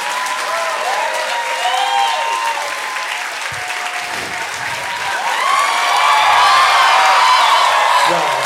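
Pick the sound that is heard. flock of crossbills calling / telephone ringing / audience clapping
audience clapping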